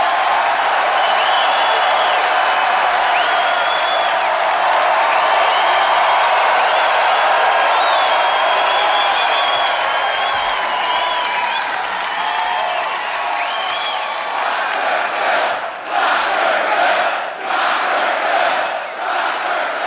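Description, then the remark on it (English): A sold-out live show audience in Chicago, Illinois, on a Sunday, St. Patrick's Day, cheers and applauds continuously, with whoops and shouts rising above a dense wash of clapping that stays strong throughout, thinning slightly near the end. “Chicago, Illinois, make some other noise if you're excited to be around tonight in the Windy City, baby.”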